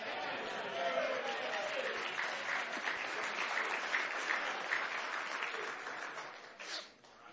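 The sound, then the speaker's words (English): A church audience claps hands in sustained, dense applause that stays steady for several seconds before tapering off near the end, a broad wash of overlapping claps. “Well, I gather from those of you that didn't clap hands, you're the welfare side.”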